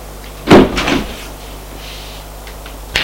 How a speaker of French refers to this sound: Il se trouve une porte. Il ouvre la porte et il sort.